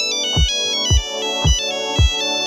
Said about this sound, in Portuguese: A pergunta de hoje era: qual era a marca deste toque de telemóvel? Super fácil, muitos acertaram e claro que era o Nokia 3310, o primeiro, e depois todos os Nokias já tinham este toque quase como uma tradição, não é?